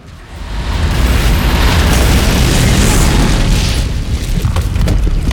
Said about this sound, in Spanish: Y yo, blanco de miedo, vimos y escuchamos cómo los dos camiones se hacían fuego y estallaban.